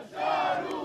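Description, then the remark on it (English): A crowd of Alawite demonstrators in Syria, from the president's own religious sect, chanting together, a loud, dense mass of raised voices held steady for under a second with no single speaker standing out. “These demonstrators are from the president's own religious sect, the Alawites, who are about 10% of the Syrian population.”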